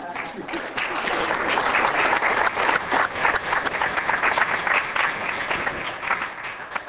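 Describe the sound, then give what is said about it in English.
Sustained audience applause after an answer by Mr. LaRouche, a dense steady patter of many hands clapping at once, fairly loud and continuous for several seconds with no voices standing out. “My boss deserves more of a bigger hand of applause for that answer.”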